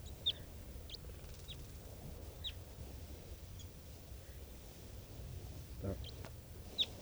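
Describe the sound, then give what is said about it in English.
Wild birds call in short, high-pitched chirps, scattered irregularly and fairly faint, over a steady low rumble of background noise; no one speaks. “And I pointed at some of the wild birds.”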